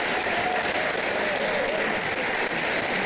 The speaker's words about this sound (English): Will you do me a favor and in the clapping sound effect that you have there, will you edit it where just in the very middle of the clapping, you just pause it